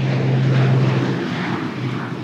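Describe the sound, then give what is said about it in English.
A research propeller plane's engines roar steadily and loudly as it departs from an airport for a 7-hour flight over the Eagle Ford Shale in South Texas, a deep droning hum with a strong low tone under broad rushing noise, easing slightly as the aircraft pulls away. “7 hours in a hot, bumpy plane sounds great, but I joined the Earthbound research team.”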